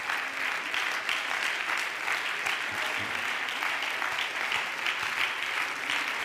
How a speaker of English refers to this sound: Thank you, Jesus. Could we clap our hands to him?